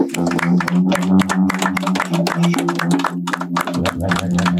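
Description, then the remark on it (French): Steady audience applause, a dense, continuous patter of many hands clapping for several seconds, with a low sustained hum or tone running underneath and no talking. “Ah oui, vous pouvez applaudir.”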